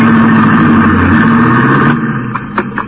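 A car engine hums steadily as the vehicle drives along the ocean while the fog clears, a loud continuous drone that shifts in tone near the end, with a few brief knocks and no voices.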